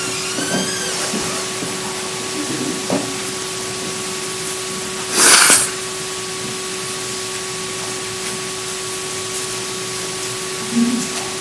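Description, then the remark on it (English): A single sharp, breathy nose blow bursts out for about half a second over a steady electrical hum, with a fainter snuffle near the end and no talking. “But you'll pardon me for blowing my nose, but it is that time of year when it seems to be a problem.”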